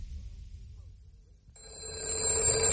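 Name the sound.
telephone ringing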